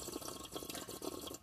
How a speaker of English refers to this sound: What the fuck was that? We have water back here, and he just, like, like, slurping it down.